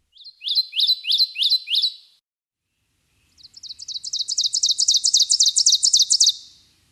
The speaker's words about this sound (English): Let's go from the treetops back to the ground to hear the ovenbird. This little warbler may be small, but it has a big call. Teacher, teacher, teacher, teacher, teacher.